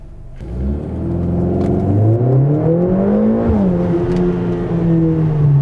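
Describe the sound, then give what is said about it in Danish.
A Mercedes car engine revs up loud while being driven on a road, pitch climbing steadily as it accelerates through gears, with a deep continuous rumble and no voices. “Det er altså simpelthen en fabelagtig motorlyd, og sådan er det også, når man kører bilen.”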